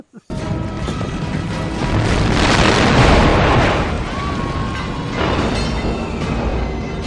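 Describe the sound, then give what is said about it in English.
A loud explosion erupts suddenly, its roaring, crackling blast swelling over a couple of seconds and then rumbling on for several more as it slowly settles. “You coughed nicely timed with the explosion instead of added the sound effect.”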